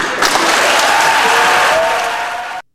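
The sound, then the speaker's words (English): Loud, sustained applause from a large crowd in the US Senate gallery after Ketanji Brown Jackson is confirmed to the Supreme Court, 53 to 47, dense and steady clapping with a few faint voices mixed in, holding for a couple of seconds before cutting off abruptly. “Senate Majority Leader Chuck Schumer calls it an even greater moment for America as the Senate gallery rally in applause for Jackson.”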